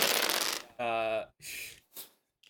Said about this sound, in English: So just one d20, right? You still need to roll two d20s for this, though. Insert dice noise? Hold on.